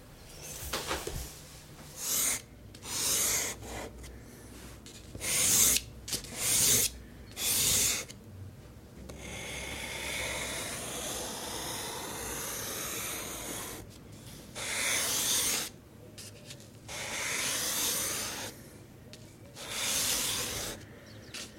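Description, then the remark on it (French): A charcoal stick scrapes across paper in short, raspy strokes, several quick bursts then longer sustained rubbing, fairly quiet with no talking. “C'est du fusain.”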